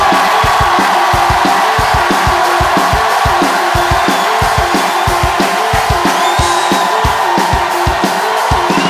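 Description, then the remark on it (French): A crowd makes a loud, sustained racket of shouting and screaming, with rapid rhythmic thumps like stamping feet pounding underneath the whole time, never letting up. “Est-ce que vous avez fait du bruit longtemps?”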